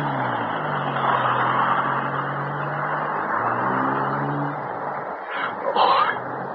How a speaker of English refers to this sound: There's Hicks' car turning the corner.